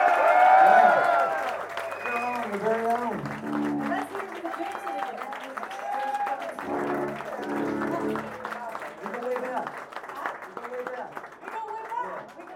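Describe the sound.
An audience applauds steadily for about twelve seconds after a band's live set, a dense crackle of clapping mixed with whoops, shouts and cheering voices, loudest in the opening second before settling into a sustained ovation.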